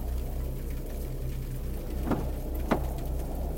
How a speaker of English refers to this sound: As Kay considers, Rowan, are you stepping out of the bus into the strange and vibrant rain?